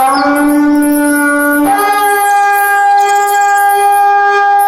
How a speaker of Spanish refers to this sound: Ese es el shofar que se escucha a unas cuantas cuadras del centro de Cuernavaca entre los meses de septiembre y octubre, anunciando con el sonido de este cuerno de carnero el Rosh Hashaná o cabeza de año, en una de las sinagogas más antiguas de la